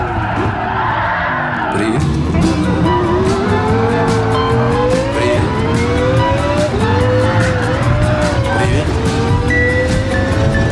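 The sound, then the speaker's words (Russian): A racing car's engine roars steadily and loudly in the video game Gran Turismo Sport, while tires squeal and skid in long wavering whines, punctuated by rapid clattering bumps as the car slides off the road into a ditch. “Разинешь рот на какой-нибудь закат или лесополосу – ну и привет, кювет!”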